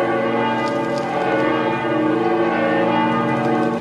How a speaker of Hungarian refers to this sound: I primi passi da pellegrini dell'anno santo in questa basilica papale dedicata alla Madre di Dio sono stati accompagnati dal suono dell'antica campana.